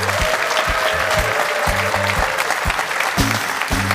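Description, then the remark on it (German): A studio crowd on a Sunday morning show applauds steadily as a co-presenter is welcomed, dense overlapping claps forming a continuous bright roar with a few sharper individual claps standing out, at an even, fairly loud level. “Aber lieber Stefan, damit müssen wir leben, dass der Applaus jetzt getoppt wird, denn ich begrüße meine liebreizende Kollegin”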